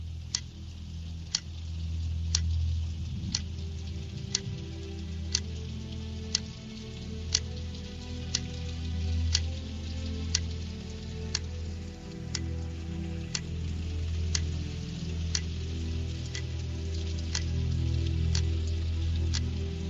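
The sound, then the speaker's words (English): A clock ticks steadily, with sharp, evenly spaced clicks about once per second, heard over a continuous low rumbling background. No one speaks. “A while back, I shared a song that sounds like this. And I want to play it through because I really want you to hear it. With the clock, with the rainstorm, and with the thunderclap.”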